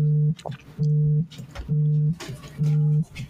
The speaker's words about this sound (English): Who's vibrating? Who is vibrating? That would be my phone. I'm getting a phone call. Oh, okay. Which I obviously am not answering it. That's yeah. It's a loud vibrating phone you have. Yeah, it's, of course, sitting on the table right next to the mic